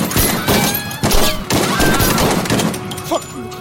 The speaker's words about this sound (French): un inconnu s'approche et lui tire 9 balles dans le corps, pratiquement à bout portant.